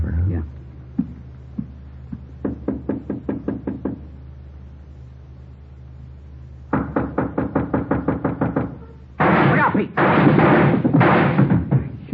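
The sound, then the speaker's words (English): Muffled gunshots through a door: a rapid string of sharp, evenly spaced bangs, a pause, another quick volley, then a few heavy, roaring blasts. “through the door. Yeah, he's got two left. Unless he's got another gun.”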